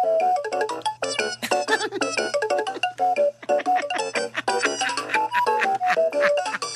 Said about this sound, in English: Hey, actually, guys, we have a song for these new chairs.